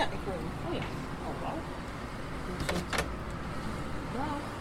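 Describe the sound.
A front door is unlatched and pulled open, with a couple of sharp clicks midway, over steady outdoor background noise and faint voices nearby.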